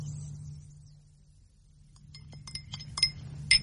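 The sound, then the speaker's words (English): A few light, ringing clinks of glass sound in quick succession near the end, over a steady low hum, as if a drink is being poured into a glass. “I can still hold a glass.”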